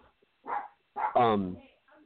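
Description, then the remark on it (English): Dogs barking: a short, sharp bark followed by a longer, louder, tonal bark that trails off, then a faint yip at the end. “Dogs are acting crazy.”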